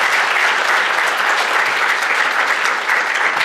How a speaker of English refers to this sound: And now I ask you for a very warm round of applause